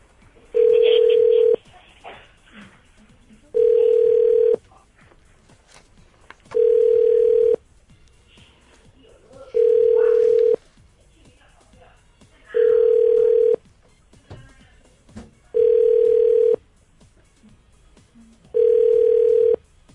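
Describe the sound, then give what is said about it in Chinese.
A telephone ringback tone repeats seven times at steady intervals, each steady beep lasting about a second, with faint background murmur in between and no answer, as a woman's call to her husband goes unanswered. “他没有接电话哎、欸， 真的。”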